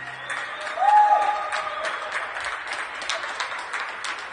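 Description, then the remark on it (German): Scattered applause from many people in Germany clapping out of windows at 9 p.m., applauding essential workers: a steady patter of uneven claps with a short, high whistle rising above it early on. “Menschen klatschen Beifall für die vielen Systemrelevanten, die den Laden Deutschland buchstäblich am Laufen halten.”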